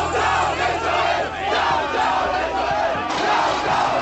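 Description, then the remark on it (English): A large crowd on a college campus chants 'down, down, Israel' and shouts loudly and continuously, a dense roar of voices, with a harsh crash of windows smashing breaking through near the end. “Those are windows smashing, people chanting, down, down, Israel.”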